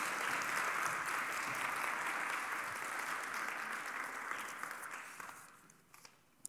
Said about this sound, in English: So you guys want to come on up? And can we give our students a round of applause as they come up? There we go.